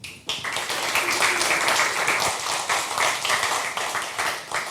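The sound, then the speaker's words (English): An audience bursts into steady applause welcoming the next presenter of a talk, many hands clapping densely and evenly at a fairly loud level for several seconds, with no one speaking over it. “Please give him an applause and welcome him.”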